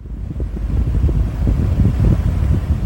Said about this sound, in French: Au quartier Tampuy, au nord de Ouagadougou, plusieurs réfrigérateurs, trois climatiseurs et des ventilateurs tournent à plein régime au domicile de Amadé Ouedraogo.